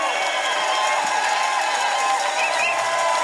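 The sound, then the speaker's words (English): A crowd cheers for a band at a New Year's concert on Toast of the Nation in a dense, steady roar of voices and whoops, loud and unbroken for the few seconds, with no clear speech rising above it. “Cheer it again for the band”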